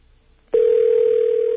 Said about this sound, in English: They're so exuberant, they can't even pick up the phone. What do you think of that? It's a bad sign. David Duke's election campaign headquarters ringing on the telephone there.